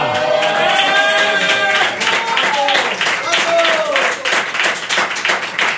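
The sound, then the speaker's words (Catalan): A crowd applauds steadily with dense, rapid, loud clapping, while raised voices cheer and call out over it throughout. “Ja li podeu estar donant les gràcies, perquè ara estaríeu aplaudint amb dos munyons tots.”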